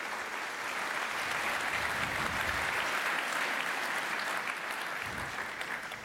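Sustained audience applause, a dense, steady wash of many hands clapping at fairly loud level for about six seconds, easing slightly at the end, with no talking over it.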